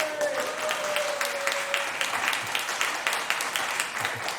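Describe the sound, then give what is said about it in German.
Steady applause from half of an audience, a dense patter of many hands clapping at moderate volume throughout, with a faint tonal hum fading out early on. “Die eine Hälfte klatscht, die andere Hälfte denkt sich genau wie ich.”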